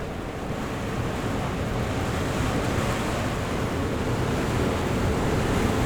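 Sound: gusts of wind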